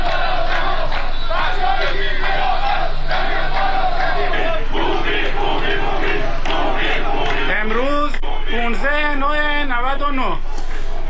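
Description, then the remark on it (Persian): A crowd of flood-affected protesters in Bandar Imam, Khuzestan province, Iran, shouting together over widespread flooding and officials' neglect, entering the municipality building, in a loud, continuous din of overlapping voices, with rising chant-like yells standing out toward the end. “همچنین بر اساس فیلمی که در شبکه‌های اجتماعی انتشار یافته، شماری از مردم ناراضی از بی‌توجهی مسئولان وارد ساختمان شهرداری بندر امام شدند.”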